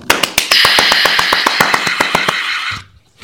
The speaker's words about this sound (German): Das sollte uns doch allen einen Applaus wert sein.